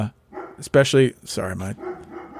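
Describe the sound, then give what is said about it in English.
Hounds bark a few times in quick succession, loud, each bark sharp and throaty, separated by short pauses with faint rustling background noise. “My hounds will bark at anything that moves.”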